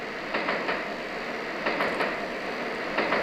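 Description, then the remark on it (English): A subway train rumbles steadily along its rails, with a broad, continuous roar and periodic clacking bursts as the wheels pass over track joints, loud, with no voices. “You know, it's funny, I don't know very many songs that use the noise of the subway quite like that.”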